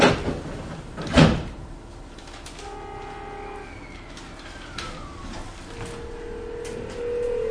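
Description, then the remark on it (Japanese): Train doors slide shut with a single solid thump, followed by a low steady hum and rising electric whine as the carriage of a one-man-operated train from Misawa bound for Towada-shi gets underway. No voices. “が閉まります。ご注意ください。”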